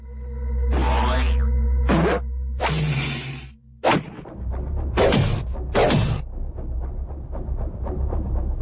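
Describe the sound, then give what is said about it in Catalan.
A rapid flurry of cartoon punching effects as an enraged ogre throws punches left and right: swishing whooshes and sharp whacks landing one after another, loud, with thumps under a low rumbling bed and no voices. “Es va enrabiar tant que va començar a repartir cops de puny a tort i a dret.”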